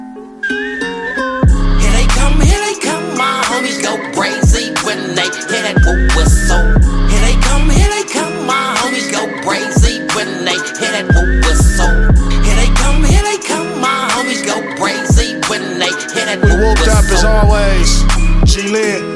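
A piercing whistle sound effect rings out over a loud hip-hop beat, riding on booming bass hits that pulse in a steady rhythm with no voices.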